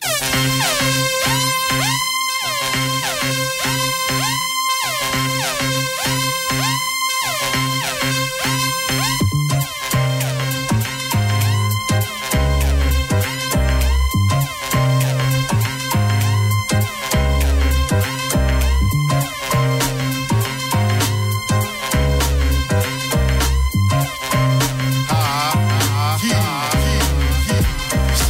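A hip-hop track plays loudly, opening with sustained brassy chords broken by short pauses, then a steady beat with heavy, punchy bass kicks comes in and drives on to the end.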